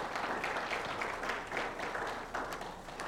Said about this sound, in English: And thank you to worship team for our three beautiful songs that I just totally love. And I just thank you for that. Can we give them a clap and praise God?